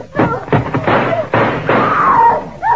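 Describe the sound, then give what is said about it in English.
A door is kicked in by police going in after an armed man, with a rapid series of heavy, loud thuds and crashing blows, followed by clattering and splintering noise as it gives way. “When I kick this door in, be standing there with your hands up or we start blasting.”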